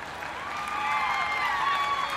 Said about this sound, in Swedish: Men vi har valt 10 stycken vi tycker extra mycket om. Ge dem en riktigt stor applåd.